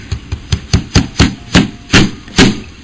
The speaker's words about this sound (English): He is slapping his penis on a table hard, and then he starts punching his cock. Take a listen. Just sort of... That's where he's slapping it on a table. Loud.